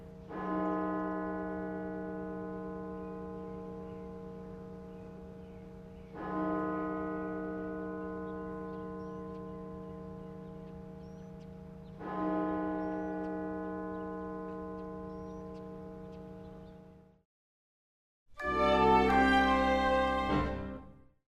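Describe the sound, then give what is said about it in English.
The deep bells of the Washington National Cathedral toll for the victims of the Orlando massacre, three strikes at slow, even intervals, each ringing out and fading over several seconds, before a brief pause and a louder, brighter burst of tone. “As we leave you, the bells of the Washington National Cathedral tolling for the victims of the Orlando massacre.”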